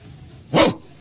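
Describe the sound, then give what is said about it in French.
A single short, loud bark-like yelp, a person's voice imitating a dog, bursting out once in the middle of an otherwise quiet moment with faint background hiss. “Ouais, tout doux, mon chien.”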